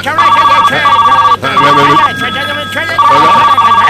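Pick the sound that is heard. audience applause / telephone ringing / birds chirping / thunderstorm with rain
telephone ringing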